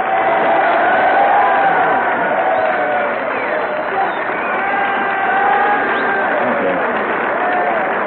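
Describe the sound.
A studio audience applauds steadily for the full length, a dense, loud wash of clapping with crowd voices and some cheering mixed in, never dropping away.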